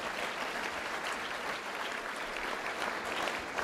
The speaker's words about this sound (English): let's give that prior panel a round of applause for their great contribution.